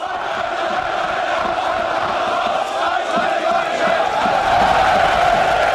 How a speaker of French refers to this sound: Une pluie d'applaudissements, mais aussi des bras tendus et tout y est. Salut nazi et Sieg Heil.